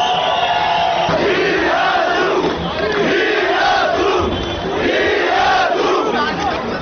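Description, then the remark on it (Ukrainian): A large crowd of protesters in Yerevan chants in unison "We are together", loud and sustained, at a June 23 protest against a rise in electricity prices, with voices rising and falling in a repeated rhythmic pattern of shouted phrases over a dense roar. “Ми разом, скандували протестовці.”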